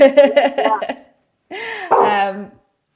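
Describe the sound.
A man speaks briefly, then after a short pause a dog lets out two loud, drawn-out barks with a slightly whining, yowling tone.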